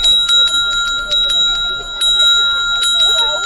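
A string of small silver bells rings continuously in quick, repeated bright strikes, their clear high tones sustaining and overlapping throughout, steady in loudness.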